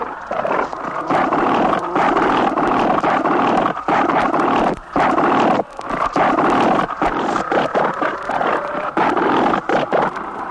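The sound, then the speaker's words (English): Loud, harsh bellowing and roaring from rival bulls, beach masters that capture females for harems, fighting over a cow; a dense, continuous din broken only by a few brief pauses, with no talking. “Sometimes two bulls want the same cow, so they fight it out until the stronger bull or the bigger bluff walks off with the wife.”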